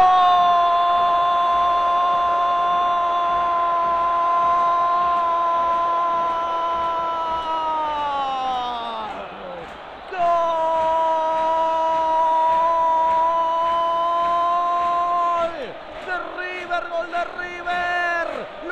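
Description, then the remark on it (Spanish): A huge crowd of River fans at the Kempes stadium roars in celebration of Lucas Alario's right-footed penalty goal against Rosario Central in the 11th minute, a loud, sustained, droning wall of voices that briefly sags midway, then surges back and continues with ragged swells. “Gritan los millonarios en el Kempes, grita River.”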